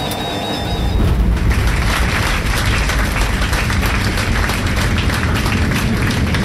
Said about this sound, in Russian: Пилоты слышат аплодисменты? Нет. Пассажиры начинают аплодировать, в принципе, после сразу касания, да, ну, как правило. То есть сели там, вот так все это начинает шуметь, гудеть, и, в принципе, не слышно.